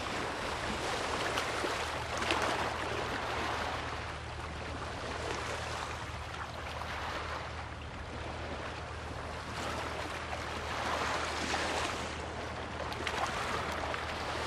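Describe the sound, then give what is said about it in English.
Flowing river water rushes steadily toward the shore, a continuous wash that swells and eases in gentle surges, with a low rumble underneath and no voices. “The current pushes the water toward the shore.”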